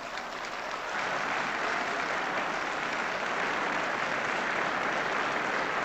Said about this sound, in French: Applaudissements